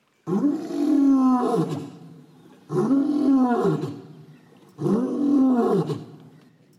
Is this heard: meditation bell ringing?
no